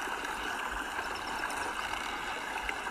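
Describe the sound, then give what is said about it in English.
Steady rush of water along a sailing yacht's hull at sea, with faint intermittent creaks from the sail above the continuous wash; no voices. “Can hear the creaking of the sail.”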